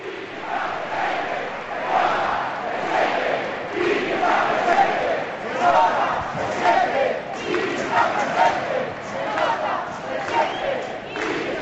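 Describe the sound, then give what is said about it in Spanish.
A large Spanish football crowd chants "se nota, se siente, está presente" in unison as a tribute while a car departs. It is a steady rhythmic roar of many voices repeating the phrase, loud and continuous throughout. “Se nota, se siente, Quini está presente y se va el coche, se va Quini.”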